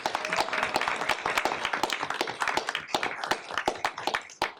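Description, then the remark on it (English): A short round of applause from a group for a team, many hands clapping in a dense, steady crackle at moderate loudness for a few seconds, with no talking over it. “So we can get a little quick round of applause for the team.”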